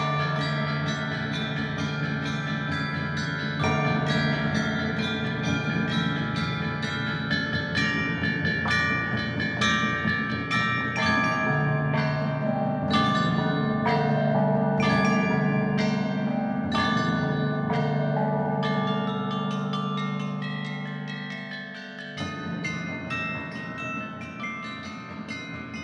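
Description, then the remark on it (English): An unearthed set of 65 bronze chime bells with pitch names inscribed, each bell giving two pitches (one struck on the front, one on the side), is struck in a steady, melodic sequence. Bright metallic strikes ring over a low, droning hum, fairly loud, with no voices. “Each of these 65 bells produces 2 pitches, one on the front and one on the side.”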